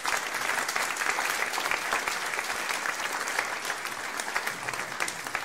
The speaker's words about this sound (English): So we mentioned it last week, but let's give them a round of applause again, because they're here this week.